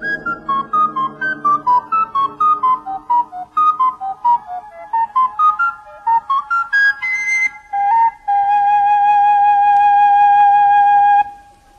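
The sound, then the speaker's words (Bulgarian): A bright old melody played on small whistles, quick stepping notes rising and falling in a lilting rhythm, ending on one long held tone. Clear, with no voices. “Да посвирим. Така ще утешим тревата, дърветата, извора и птиците.”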